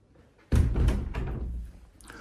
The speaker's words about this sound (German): Türklinke ist linke Seite. Wir öffnen die Tür und ich werde sie mal hinter mir wieder verschließen, dass uns die nicht zuknallt.